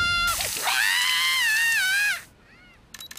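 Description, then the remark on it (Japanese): A sudden burst of seawater splashes over someone, who lets out a long, loud, high-pitched scream over the rush of water before it cuts off into near silence. “安心しろ、海水だ。”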